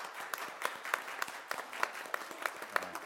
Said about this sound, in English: And I think at the end we can all have a good round of applause.